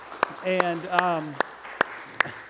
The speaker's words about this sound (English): Absolutely. You can clap for that.